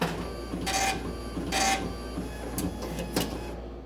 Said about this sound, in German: Zum Bezahlen werfe ich die Münzen in einen Schlitz im Automaten. Oder ich schiebe einen Geldschein in einen anderen Schlitz. Dann druckt der Automat meine Fahrkarte aus.